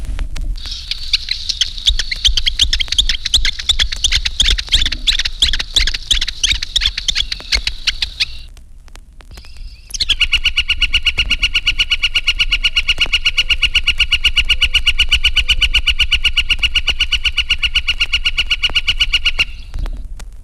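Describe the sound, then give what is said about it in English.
Flickers trade excited whickering notes for several seconds, then after a short pause a single flicker gives its long, steady spring call, a rapid even series of loud wick notes. “Here is a whickerel conversation, and last, the prolonged spring call of the flicker.”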